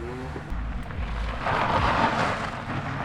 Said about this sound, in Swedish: Ja, ni hör direkt. Här varvar de sina moppar.